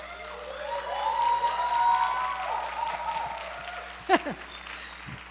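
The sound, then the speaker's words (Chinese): An audience at a church gathering cheers and applauds together, a dense, steady wash of clapping with many overlapping voices whooping, and one sharper shout breaking out near the end. “聚会结束以后，你们去领奖，领奖，这边欢呼的比较大声。”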